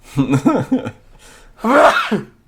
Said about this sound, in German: Sekunde, gut, ich muss mal kurz niesen, ist kein Corona.